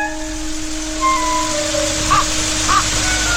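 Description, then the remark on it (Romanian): Two harsh raven caws ring out a moment apart over a steady hiss of background noise with faint tonal hum, in an area where many ravens live; no one speaks. “Pentru că pe aici sunt mulți corbi, foarte mulți.”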